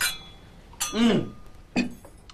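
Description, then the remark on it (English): A few bright glass clinks ring out, as in a toast at a dinner, with a brief voice murmuring between them. “That's good, son. Cheers.”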